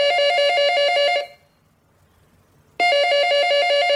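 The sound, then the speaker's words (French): A telephone rings loudly in a family's home with a bright, trilling electronic bell, two ring bursts separated by a pause of about a second and a half. No one speaks. “2 heures plus tard, le téléphone sonne chez les Bastouille.”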